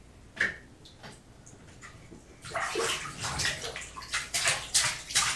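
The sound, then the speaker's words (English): Water splashes and sloshes, quiet and sparse at first, then building after a couple of seconds into a busy run of bright, repeated splashes like water churned in a tub. “Ooh, that's a water splash!”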